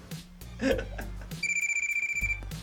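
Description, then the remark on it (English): A telephone bell rings in a rapid, trilling burst, loud, with brief voices and low background noise around it. “Get the phone.”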